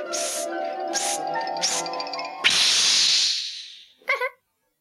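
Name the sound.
balloon being inflated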